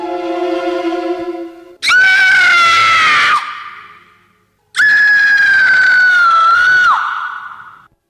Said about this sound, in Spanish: Deja de gritar, que yo te vengo a salvar.